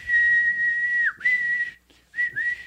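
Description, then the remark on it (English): A person imitates a man blowing a little whistle with their mouth: a long, steady, shrill tone that briefly dips, then two shorter blasts after a pause, fairly loud. “And he's got a little whistle that he brings out, and he blows it.”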